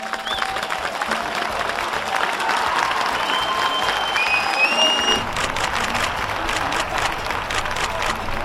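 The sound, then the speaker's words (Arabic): Sustained applause from an audience at a UNIFIL medal ceremony in Lebanon honouring women soldiers: a steady dense patter of many hands clapping, with faint crowd murmur and a few thin tonal chirps above it. “تهاني حارة من الشخصيات اللبنانية وتصفيق من الجمهور والتقاط للصور التذكارية، جميعها ستبقى في ذاكرة المكرمات لسنوات وسنوات عديدة،”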